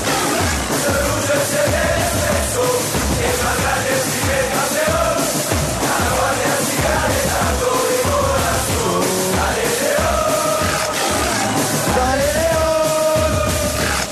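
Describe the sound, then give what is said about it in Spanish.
A large stadium crowd at El Campín chants and cheers steadily throughout, sustained massed voices with rising and falling melodic yells and rhythmic pulsing, loud and continuous with no single speaker standing out. “Dejen escuchar la música, por favor, viejito, porque la gente sigue alentando en el campín.”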